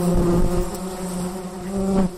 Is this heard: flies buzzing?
yes